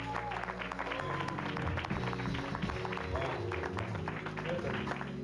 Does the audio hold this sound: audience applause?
yes